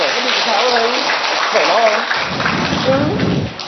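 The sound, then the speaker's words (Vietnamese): A room full of people breaks into sustained applause, a dense crackle of clapping lasting a few seconds, with voices calling out over it. “Rồi ơn thứ ba, một tràng pháo tay nữa thưa anh chị em.”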